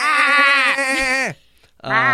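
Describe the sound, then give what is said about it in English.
A person loudly imitates a yelling goat: a long, quavering bleat-like cry, a brief pause, then a second bleat starting up. “Or yelling goats could be good too.”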